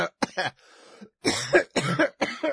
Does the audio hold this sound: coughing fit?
yes